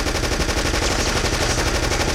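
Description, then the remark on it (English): Sustained machine gun fire ripping through a scene at a car in Kansas City where police officers and agents were getting in, a rapid, unbroken stream of loud shots with a steady, rattling rhythm. It stays dense and harsh throughout, with no voices and no pauses between bursts. “Machine gun fire ripped through the scene.”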